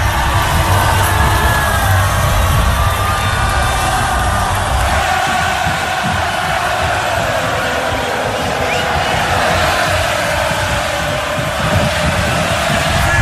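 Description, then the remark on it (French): A dense, loud crowd roar of Liverpool football supporters fills the whole stretch, with overlapping shouts and chanting voices and a low rumbling bed underneath, steady and unbroken. They surround and greet the players parading on an open-top double-decker bus through the city streets, celebrating a sixth Champions League title. “Beaucoup de monde pour entourer, saluer les joueurs qui défilent sur un bus à impérial, hein, c'est comme ça qu'on célèbre les grandes histoires dans le football.”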